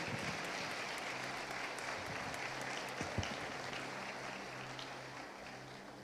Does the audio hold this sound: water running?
no